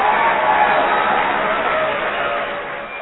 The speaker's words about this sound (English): For those of you who don't know what that horrible noise was, that was applause.